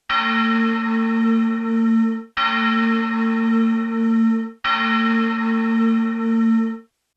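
A loud, ringing bell-like signal chime from the opera house's signal system sounds three times in steady succession, each tone sustained for about two seconds with a rich metallic hum before cutting off sharply. No voices are present.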